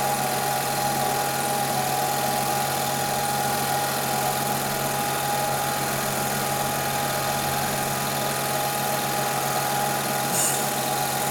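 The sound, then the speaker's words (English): A new car's engine idles steadily, a constant low rumble with a faint whine running through it, unchanging for the whole stretch with no voices. “New car.”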